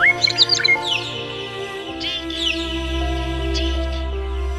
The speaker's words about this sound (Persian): گنجشک ها به هیاهو می افتند.